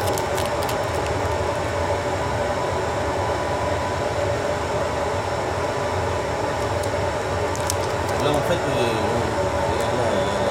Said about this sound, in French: C'est une soufflerie là pour l'entendre. C'est l'aspiration. C'est pour maintenir le papier en route. Alors si tu veux là c'est moins quand c'est en bas ça aspire vraiment, quand c'est en haut ça relâche un peu pour pouvoir enlever le papier